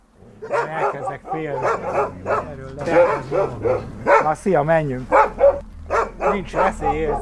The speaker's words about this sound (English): And then these farm dogs started to bark and you left